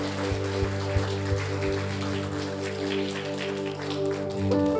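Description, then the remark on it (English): A worship audience gives a hand clap of praise to the Lord, clapping steadily in a dense, crackling wash that lasts throughout, with sustained organ-like chords and a few soft low thumps underneath. “Can we give the Lord a good hand clap of praise?”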